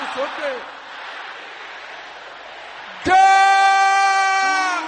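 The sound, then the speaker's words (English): An audience shouts a prayer loudly together, a noisy wash of overlapping cries that breaks into a strong, sustained unison shout held for nearly two seconds. “Everybody together now.”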